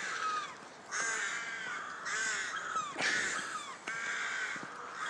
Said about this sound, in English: This crow is as unhappy about it as me, by the sound of things.